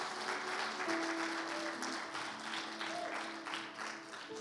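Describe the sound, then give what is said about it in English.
A crowd applauds steadily, a dense wash of many hands clapping at an even, sustained level throughout, with faint tonal hums running underneath. “Would you give them a round of applause? Let heaven hear it.”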